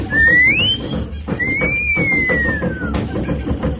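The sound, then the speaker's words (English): A loud wolf whistle, given to signal someone: a quick rising note, a short pause, then a longer gliding note that slowly falls, whistled over a busy, rumbling background amid birds raising bedlam. “I'll give her the wolf whistle.”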